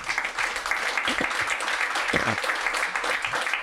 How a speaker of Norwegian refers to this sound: Da lar vi det være siste ord fra politikerne, så da må dere gi dem en god applaus.